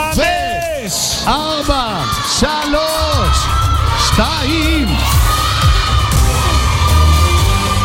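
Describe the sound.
A crowd of girls counts down together, then erupts into loud, sustained shouting and screaming as they compete to shout the loudest, many high voices overlapping at full volume.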